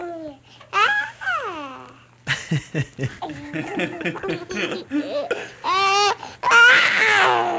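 A newborn baby gives a run of wavering wails and fussy, babbling cries with short pauses, ending in a louder, strained outburst.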